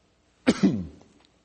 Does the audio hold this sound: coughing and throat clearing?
yes